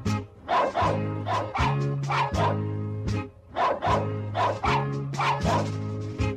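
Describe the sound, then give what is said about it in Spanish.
Small pet dogs bark and yip rapidly and continuously as a birthday greeting, their sharp, high-pitched calls overlapping in a loud, excited chorus, with no pauses for several seconds. “Y nada, ahí tienes la felicitación de mis perritos que te mandan un muy cumpleaños feliz.”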